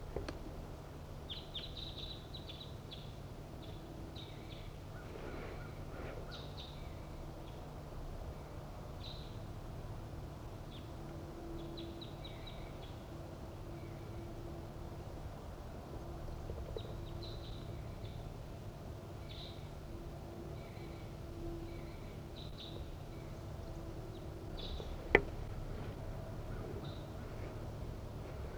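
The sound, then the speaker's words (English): Red crossbill calls from wild crossbills flying north to south along a ridgetop, one perched in a nearby tree: sharp, high-pitched kip notes repeated in loose clusters throughout, fairly faint over a steady low background hum, with no talking. “One, two wild crossbills flying from north to south along the ridgetop, and one has perched in the tree nearby.”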